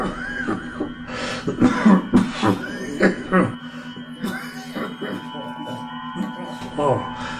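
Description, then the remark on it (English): A series of loud, chesty coughs comes in bursts, some with a rough, throaty edge, over a steady electronic hum and faint voices in the background. “When you're the captain of a starship, you don't have time for a sore throat or chesty cough.”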